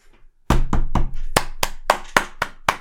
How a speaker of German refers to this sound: Kurz Moment für Applaus.